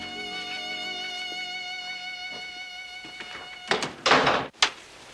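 A steady, bright tonal drone fills the opening seconds, then a hotel room door rattles and bumps twice before slamming shut with one loud, sharp thud, cutting off into quiet.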